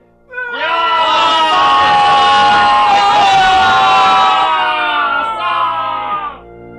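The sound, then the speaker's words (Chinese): A large group of Israelite warriors shouts together at Joshua's order, outside the walls of Jericho on the seventh day. It is one loud, sustained roar, rising quickly and holding for several seconds before trailing off, with no single speaker standing out. “然后约书亚下令， 勇士们，我们一起喊叫吧。”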